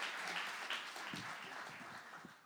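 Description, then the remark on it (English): A crowd claps their hands for performer Ryan De La Garza in a dense, steady patter of many overlapping claps, fairly soft and continuous, easing off slightly toward the end. “Clap your hands for Ryan.”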